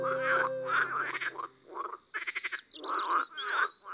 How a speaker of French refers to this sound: Il est 9h et il fait presque nuit. Vous entendez les grenouilles ? Il y a une mare pas loin.